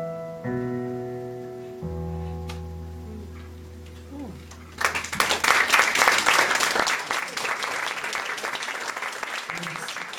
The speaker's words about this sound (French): Nous sommes de retour à l'émission Ésotérisme expérimental. Et ces applaudissements étaient envers une artiste. Un tour de chant assez spécial dont on va parler un peu plus tard.